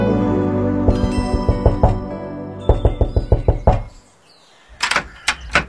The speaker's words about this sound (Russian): А дверь заперта. Стучу, а никто не открывает.